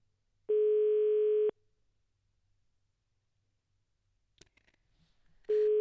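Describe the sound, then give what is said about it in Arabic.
A telephone ringback tone on an outgoing call to the office of the chief of staff of the Khemisset prefecture: a steady, buzzy single-pitch tone sounds for about a second, falls silent for several seconds, then starts again, with faint clicks in the gap. “الهاتف يرن، تنتمنى انهم يجاوبونا.”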